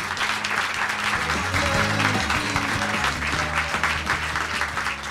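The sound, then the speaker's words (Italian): A crowd in an auditorium claps steadily for the full five seconds, a dense, even patter of many hands welcoming a former Resistance partisan, while a low music melody plays underneath. “direi un applauso subito per lui.”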